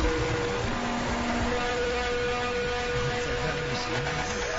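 Dense, unbroken wall of droning guitar feedback noise, with steady high whining tones layered over a harsh rumbling hiss, holding at a constant loud level throughout with no voices, played from a classic double album on 720 WGN radio.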